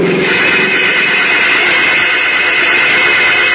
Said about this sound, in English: Shouting alarm, the bus driver sits transfixed as he sees a small sedan traveling at high speed roar up from behind and bear down directly on Howard Jones.